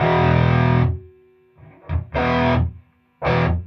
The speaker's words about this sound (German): die Amps nur, wenn die Röhren in die sogenannte Sättigung gefahren werden, also volle Leistung bringen.